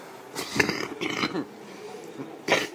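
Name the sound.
cough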